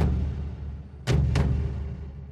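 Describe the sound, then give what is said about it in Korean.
An explosion aboard the US warship Maine, anchored in Havana harbor, Cuba, on 15 February 1898: a deep, continuous rumble punctuated by two sharp blasts in quick succession. The roar lingers loudly afterward, with no voices. “1898년 2월 15일, 쿠바 아바나항에 정박하고 있던 미 군함 메인호에서 엄청난 폭발이 일어났다.”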